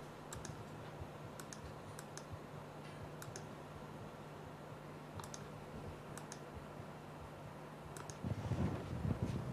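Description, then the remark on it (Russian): Irregular clicks and taps of someone testing a malfunctioning computer keyboard with a stuck Windows key, over a steady low hum, with a rustle of handling noise near the end. No one speaks. “Что же могло случиться с моей клавиатурой?”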